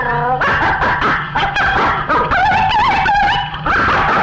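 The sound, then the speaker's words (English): A crowd of voices mimics a dog during a sing-along, calling out loud overlapping barks and yips in quick repeated bursts, energetic, with no ordinary speech. “And the dog goes, how's the dog go?”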